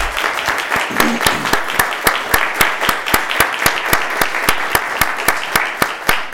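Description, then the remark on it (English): An audience at an Oak Ridge schools board meeting applauds the school board steadily for several seconds, a dense wash of clapping with a few sharp, evenly paced claps standing out above the rest. No one speaks. “So with that, let's everybody, could we applaud our board for the work that they do.”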